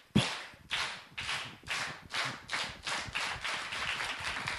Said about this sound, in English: Oh, all right, rhythmic clapping, yes.